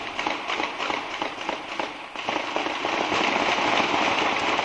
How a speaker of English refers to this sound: And that is the sound 21 months ago of police in Watertown exchanging gunfire with two other brothers who also were subjects of a massive manhunt.